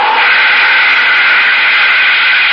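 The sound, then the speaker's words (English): A loud, steady rushing roar of spaceship jets being started up, a broad hissing blast that holds at an even level without pause or change in pitch for the whole stretch. “All right, start up the jets, Astro.”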